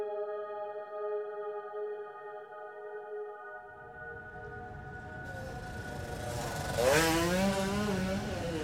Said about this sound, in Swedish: En fotograf fångar honom på bild när han kör sin motorcykel på en bilväg mitt i Oslo.